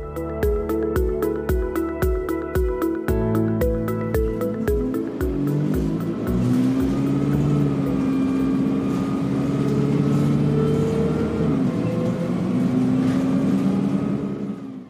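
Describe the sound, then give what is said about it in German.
A large diesel bus engine cranks and turns over in pulsing bursts, then catches and rumbles steadily, rising in pitch as the bus revs and pulls away from the Regional Labour Court in Hamm, Germany, in September 1979, heading for Gelsenkirchen with several dozen women aboard; loud with no voices. “Vor dem Landesarbeitsgericht startet ein Bus in Richtung Gelsenkirchen.”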